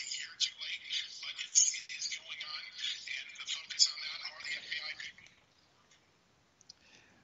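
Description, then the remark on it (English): A harsh, crackly electronic phone noise buzzes steadily for about five seconds, then cuts off abruptly into near silence with a faint click near the end as a button on the phone is hit to turn it off. “I hit a button on my phone. I had to get that turned off.”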